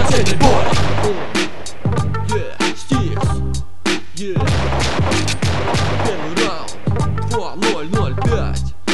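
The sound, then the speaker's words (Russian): Loud, rapid bursts of gunfire crack out again and again over a thumping low bass rhythm, the shots sharp, packed densely across the whole stretch with no talking. “Слышишь выстрелы, будь на чеку.”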